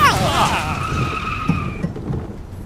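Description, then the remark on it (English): A car skids with a loud, wavering tire squeal that steadies into a sustained screech for nearly two seconds, over a constant low rumble and jostling from the rough road surface. “Fortunately, this car seems to have a suspension made of durium.”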